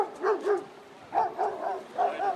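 A dog barks in quick bursts of two or three, pausing briefly between each cluster, moderately loud with no one talking.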